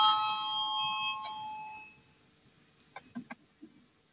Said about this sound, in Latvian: Lūdzu, zvanu, balsosim par 25. finanšu ministra Reira priekšlikumu.